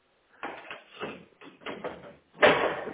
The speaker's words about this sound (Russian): Так, сейчас подожди, я закрою сейчас, потому что ящик тут плотненько так.